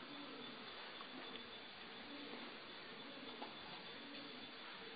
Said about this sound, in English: We've got a chorus of pigeons out there. It's pigeon time.